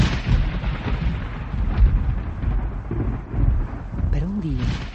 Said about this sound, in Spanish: Una tormenta eléctrica poco a poco se fue acercando al pueblo y un rayo cayó en un pastizal en las afueras y se desató un feroz incendio.